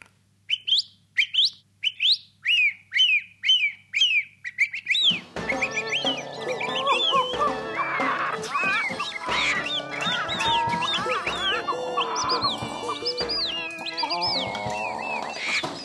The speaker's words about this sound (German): Oder bei der Singdrossel, da kommt es immer darauf an, höre ich sie nun von weitem oder höre ich sie von nahem. Da klingt es teilweise ganz anders. Lass sie mal von nahem klingen. Derselbe Vogel jetzt 100 Meter weit weg.